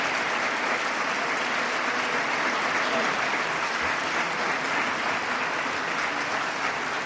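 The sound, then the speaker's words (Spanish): Sustained applause from a large crowd of cofrades (brotherhood members) for the Holy Week pregonero at the Teatro Infanta del Honor in Jaén, a steady dense wash of clapping at an even loudness throughout, with no voices standing out above it. “Continúan el aplauso, el largo aplauso al pregonero por parte de los cofrades que hoy se dan cita en este Teatro Infanta del Honor.”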